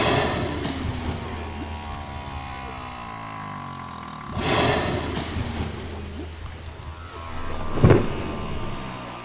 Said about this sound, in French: Maintenant, vous savez quel est le son particulier de la baleine.